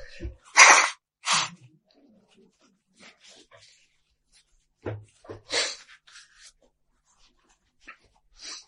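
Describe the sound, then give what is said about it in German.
A person sneezes during a lecture: two sharp, loud sneezes burst out in quick succession, followed after a quiet pause by another forceful sneeze-like burst and some faint breathy sounds. “Aber ihr kennt das ja schon, kleine Pannen gibt es immer beim Vortrag, also muss man sich halt einmal niesen.”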